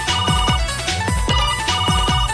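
A mobile phone ringtone plays loudly and close, an electronic melody of repeating descending chirps over steady bright tones, with no voices.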